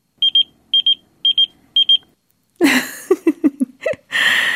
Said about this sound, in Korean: 이렇게 삐삐가 울리면 화면에 뜬 번호를 확인한 후에 전화 걸어서